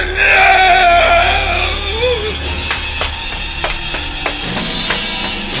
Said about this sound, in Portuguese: Eu estava dormindo e acordei com um berro dele.